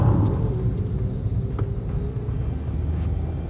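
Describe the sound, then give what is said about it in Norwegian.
Steady low rumble of a car cruising at about 90 km/h in an 80 km/h zone, heading past IKEA toward Asker, Norway, while following another car. Road and engine noise drone evenly throughout with no voices, heard from inside the vehicle. “Jeg kjører, det 80-sone her, men han holder 90, og da holder vi jo 90.”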